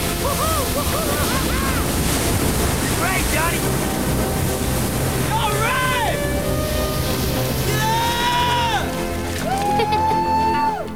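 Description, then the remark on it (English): Ocean waves crash onto a sandy beach in a rush of white spray as surfers ride them toward the shore, a steady, loud roar of surf and wind, with excited voices calling and whooping over the rushing water. “Another wave in front of them hits the sandy beach in a rush of white spray.”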